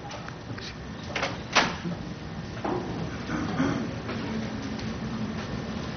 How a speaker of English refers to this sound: Could someone close the door, please, if that's possible, because there's noise outside that's interfering.